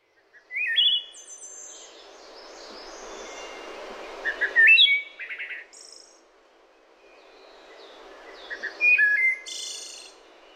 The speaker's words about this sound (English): Yeah, we sit on our screened-in porch, which is her idea, too, to listen to this wood thrush. It is a beautiful bird.